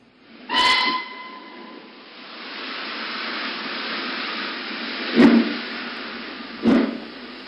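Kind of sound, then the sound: vehicle, steam train whistle blowing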